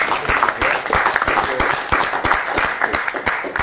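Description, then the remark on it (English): A group at a council meeting applauding Councillor Carter's 50 years of marriage: a steady, dense patter of many hands clapping, sustained at an even loud level for a few seconds with no one speaking over it. “Have our big round of applause for tomorrow.”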